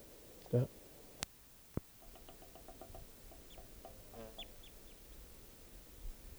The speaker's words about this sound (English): Wild bird.